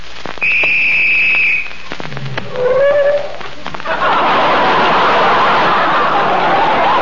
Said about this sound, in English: Sorry, old man. Somebody blew the whistle by mistake.